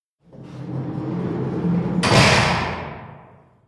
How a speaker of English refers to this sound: The guard puts Toad in a small dark room with a tiny window, a bed, and a table. Then he locks the door.